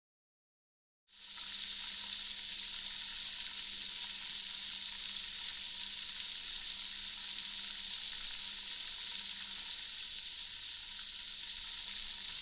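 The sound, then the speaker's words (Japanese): Soap foam bubbles being lathered between the palms of two hands, heard as a steady, bright fizzing crackle that begins after a moment of silence and continues evenly, with no voices. “魔法の泡の音色は目に見えない汚れを洗い流します。”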